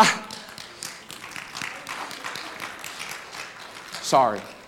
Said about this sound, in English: I'm sorry. I can't make him stop clapping.